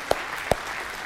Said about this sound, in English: Come on now. Yeah, you give the Lord a hand clap at least.